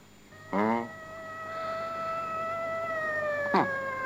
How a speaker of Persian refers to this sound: صدای آژیر پلیس.